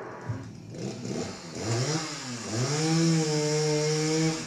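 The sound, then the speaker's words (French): A chainsaw engine sputters, then revs up into a loud, sustained whine with rising and falling pitch, running steadily with no talking; a chainsaw recording used in the sound of a stage piece. “On entend une tronçonneuse qui voilà, c'est le truc.”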